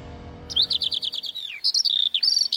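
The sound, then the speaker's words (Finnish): Small birds twitter in a quick, bright series of high chirps and trills, clear, with short pauses between phrases and no voices present. “Pääskysestä puheen ollen, älä jätä kesätapahtumien markkinointia pikkulintujen visertämisen varaan.”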